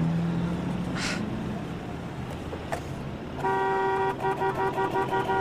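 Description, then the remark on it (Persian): Car horns honk amid steady traffic rumble in a traffic jam, one sustained blare starting partway through and pulsing in short bursts toward the end, loud. “دیگه چه ترافیکی خدایا، من بدبخت همیشه باید دیر برسم.”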